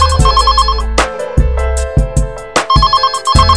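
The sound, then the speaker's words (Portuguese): A phone ringtone plays loudly at 2 a.m., a repeating electronic melody with steady beats underneath, continuing through the whole stretch with no voices. “2 horas da manhã, meu telefone tocou.”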